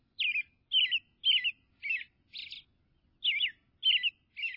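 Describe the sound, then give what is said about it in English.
An American robin sings in February, in winter, a clear, rhythmic string of short caroling phrases, a brief pause midway, heard alone with no other sounds. “Even now in February, when the air outside is brittle and painful, warmth rides the rhythm of an American robin.”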